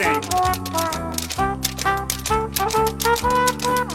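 Quick, crisp tap-dance steps clatter in a steady rapid rhythm, loud, over a bouncy musical accompaniment with sustained tones throughout.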